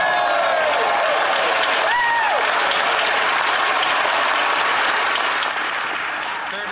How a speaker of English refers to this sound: So that is the moment, and you will see that they will clap and clap and clap for over a minute as the Conservative Party of Canada, the Liberals and the NDP, our opponents, the woke cult, basically join together in unanimous consent